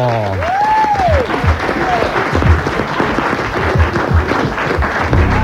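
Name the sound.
audience applause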